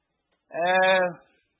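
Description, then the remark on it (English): A single sheep bleats once, a clear, wavering baa lasting under a second, with no other sounds around it. “And pretty quick, he had that whole herd of sheep running toward the gate.”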